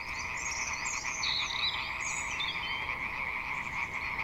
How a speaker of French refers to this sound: Un chouette chemin de balade y a été aménagé et, printemps oblige, les grenouilles s'en donnaient à cœur joie et en plein après-midi.